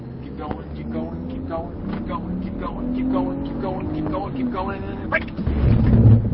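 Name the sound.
car accelerating hard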